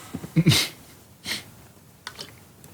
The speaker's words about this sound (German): Ich habe einen richtig trockenen Hals gerade. Trink was. Hört man da. Du hast auch Tränen in den Augen. Weil ich gerade husten musste.